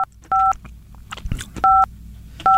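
Touch-tone phone dialing to call someone: a few loud, clear keypad beeps spaced unevenly, with quiet rustling and faint handling noise in the gaps between presses.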